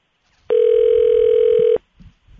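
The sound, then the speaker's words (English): A single loud, steady electronic ringback tone from a phone call being placed to a father, holding one even pitch for just over a second before cutting off, followed by a few faint soft bumps. “I wanted to call my dad, who doesn't know that Bill Kennedy is reffing tonight's Game 6 Celtics-Hawks game.”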